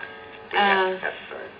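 A clock chime plays a new, different melody: a short run of bright, bell-like tones, clear, fading after about half a second, followed by a couple of softer notes.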